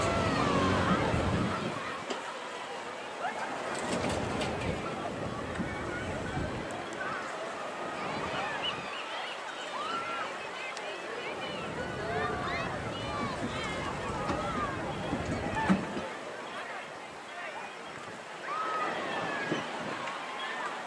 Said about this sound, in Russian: Слышно хорошо. Я не знаю, как у вас там в кадре это слышно, но голоса людей, которые на пляже там играют. Кто с мячиком, кто тарелочки запускает.